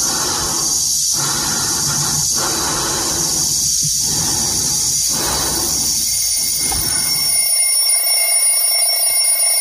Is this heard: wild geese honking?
no